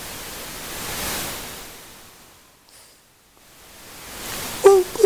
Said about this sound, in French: Et alors, par comparaison, le bruit rose.